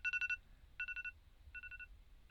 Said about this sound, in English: Well, the phone was easy enough to find with your alarm still going off.